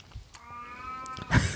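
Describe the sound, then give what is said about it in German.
A pet cat downstairs yowls at a mirror once in a long, drawn-out, wavering cry of about a second, followed by a brief louder rustling thump. No one speaks. “Ist übrigens, wenn ihr sehr merkwürdige Geräusche hört, ist unsere Katze.”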